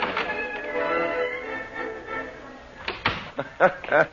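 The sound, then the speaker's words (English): A door being opened, with a drawn-out, textured creak and rattle for a couple of seconds, then short bursts of voices talking. “Just open the door behind you”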